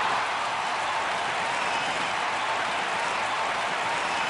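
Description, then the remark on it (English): Steady, dense crowd applause fills the whole stretch, a continuous wash of many hands clapping at an even, loud level with no voices standing out. “All right, there we go with that crowd again.”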